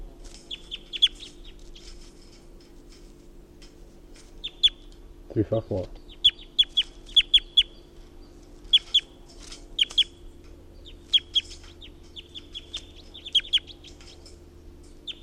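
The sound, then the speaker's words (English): Repeated high, sharp bird calls and chirps in short bursts throughout, over a steady low hum, with one brief louder low call near the middle. “This is bird 354 again.”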